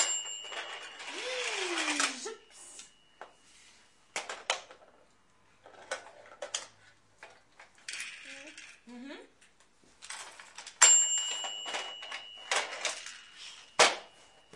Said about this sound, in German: jetzt fährt das Auto hoch im Fahrstuhl. Ach, ja, das macht ja einen Krach.